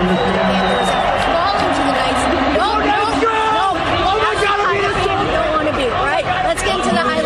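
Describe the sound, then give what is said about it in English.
A loud crowd of Vegas Golden Knights fans at T-Mobile Arena roars continuously, a dense wall of many voices with scattered shouts and whoops rising above the din, unbroken for the whole stretch. “A very loud crowd here at T-Mobile Arena.”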